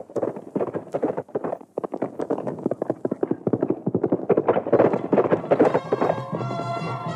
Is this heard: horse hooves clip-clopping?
yes